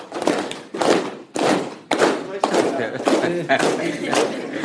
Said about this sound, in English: Clapping. Can you tell the people how to clap? Yeah, this is how we clap.